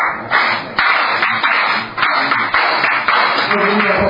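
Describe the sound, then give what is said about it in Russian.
Steady rhythmic hand clapping, sharp loud claps landing roughly twice per second over a dense wash of crowd noise, with no clear speech. “Остальные, у кого нет инструментов, что они делают? Хлопают в ладоши.”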